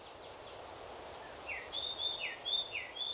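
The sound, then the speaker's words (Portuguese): Birds sing in a series of short, high whistled notes that repeat in a quick, rising pattern over a soft hiss of outdoor background, fairly quiet. “Além, é claro, de ouvir também o seu lindo canto.”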